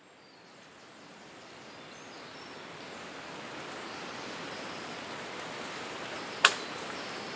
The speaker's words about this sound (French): Eh bien là, je suis dans un champ avec des hautes herbes. J'ai continué ma balade et je suis arrivée ici. Le vent soufflait fort encore. Je te fais écouter le son.